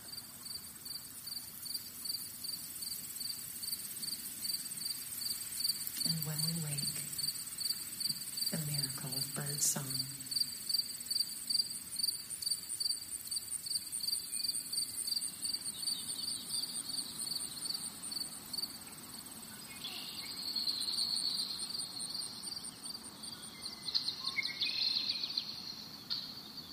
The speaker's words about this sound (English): We can hear the rush of water. Crickets and tree frogs sing to us in our sleep.